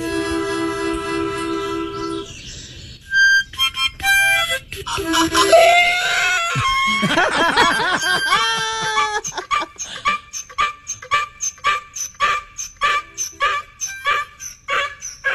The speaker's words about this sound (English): there's this woman who starts playing a harmonica, and her donkey starts to sing along